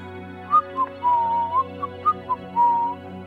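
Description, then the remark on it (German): A person whistles a brief, wandering tune of short chirpy notes and a few longer held tones, clear, with no talking and only a low steady hum beneath. “Pfeifen soll auf der Bühne Unglück bringen.”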